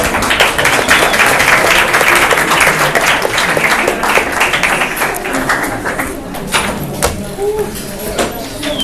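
An audience applauds by stomping their feet, a dense, loud rumble of many thuds that keeps up steadily for several seconds, then thins into scattered individual stomps toward the end.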